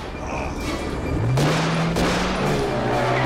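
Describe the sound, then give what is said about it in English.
A burst of gunfire in an action movie scene as Jean-Claude Van Damme does a diving jump while shooting: several sharp, loud shots crack in quick succession over a dense roaring background, with a low engine-like hum rising underneath. No voices. “And Jean-Claude Van Damme does another diving jump while shooting.”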